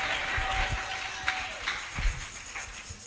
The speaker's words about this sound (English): You are on your feet. Clap your hands for the Lord.